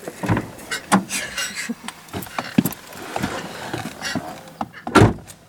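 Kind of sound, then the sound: vehicle, getting into a car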